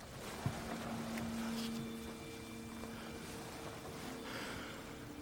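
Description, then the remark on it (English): A boat, out of control and swinging to port, churns steadily through water, a low motor drone and hiss of wash running continuously, with a brief knock near the start and a thin whine riding on top, as a boat rotted almost through rises out of the water. No one speaks. “boat, rising out from the water, rotted almost through.”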